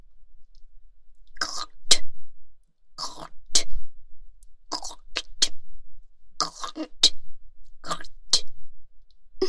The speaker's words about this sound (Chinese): 那就喝口水，请你们大人吐在地上。